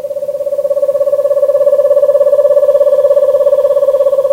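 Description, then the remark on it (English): An eastern screech owl gives a long, steady trill at nightfall: a rapid, even run of soft whistled pulses on one mid-pitched note, holding for several seconds with no other sounds. Recording from the Macaulay Library at the Cornell Lab of Ornithology. “As night falls and the subtropical birds go quiet, an eastern screech owl trills.”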